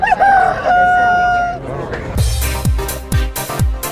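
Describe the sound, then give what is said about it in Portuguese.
A loud rooster crow rings out for over a second, followed by a short burst of punchy, rhythmic drum-like hits, with no one speaking, as the jingle for the "Fala Foca e Canta Galo" segment of the WRF program Você Online. “Dentro do Você Online, Fala Foca e Canta Galo.”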